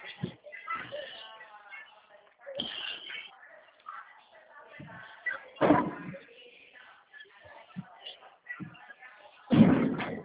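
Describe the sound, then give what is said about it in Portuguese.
A door bangs shut twice in strong wind, loud thuds several seconds apart, the second one heavier, while people talk between the slams. “Filho, fecha essa porta, tá ventando muito, filho.”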